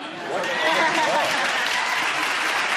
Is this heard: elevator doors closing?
no